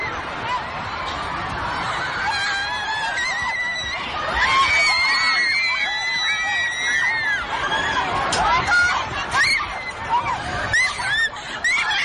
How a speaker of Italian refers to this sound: La paura, le urla di terrore, quelle urla che abbiamo sentito tante volte purtroppo durante questi attacchi terroristici, e poi comincia la fuga, una fuga disordinata per uscire velocissimamente dalla Manchester Arena